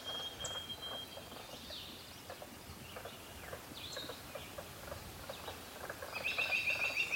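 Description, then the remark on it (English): A robin sings clear whistled phrases, with a brighter burst near the end, over a steady outdoor backdrop of soft clicks and rustling. No one speaks. “There was the robin again.”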